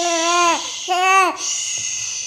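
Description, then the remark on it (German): A two-day-old newborn baby, lying naked on a changing table in a hospital in Leipzig, cries in two short, high wailing bursts that bend downward in pitch, fairly loud, with a brief pause between them and quiet afterward. “Wenn du so weinst, kann ich nicht viel hören.”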